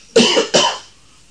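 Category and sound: human body sound, coughing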